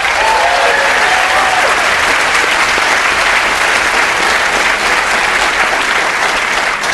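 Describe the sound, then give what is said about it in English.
A dense, steady round of applause from the audience of the show Wait Wait... Don't Tell Me as tightrope walker Nick Wallenda is welcomed, many hands clapping loudly and continuously for the full seven seconds, with a faint cheer near the start. “I was thinking there were easier ways to get a round of applause.”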